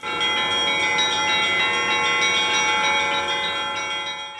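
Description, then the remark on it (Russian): Festive church bells peal continuously, rich overlapping metallic tones ringing out loud, sustained throughout with a dense shimmer of harmonics and no voices. “Тогда, возможно, и здесь в скором времени поднимутся колокола и разольется праздничный колокольный благовест, такой же, как впервые после лихолетия услышали жители Нерчинска в день преображения Господня».”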